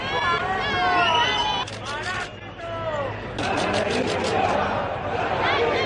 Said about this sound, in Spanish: Esos aplausos a la familia real han contrastado, sin embargo, con los abucheos y los pitidos que ha recibido el presidente del Gobierno, Pedro Sánchez, al que han llamado otras muchas cosas, entre ellas parásito.